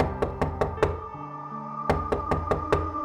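Someone knocks carefully on a bedroom door: four evenly spaced raps, a pause of about a second, then four more, all at a moderate, restrained loudness with no voices.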